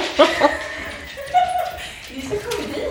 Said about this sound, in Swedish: Det ringer, hunden skäller.